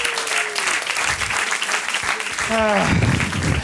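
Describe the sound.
An audience claps steadily throughout, a dense wash of applause, with a voice rising above it briefly near the end in a drawn-out, tonal call.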